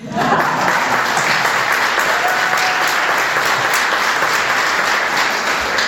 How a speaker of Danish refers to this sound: I må gerne klappe igen.